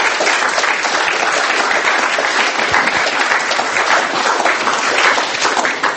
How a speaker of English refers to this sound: Please do thank these guys in particular, because it's not easy to come up here and stand at the front. So please do give them a round of applause.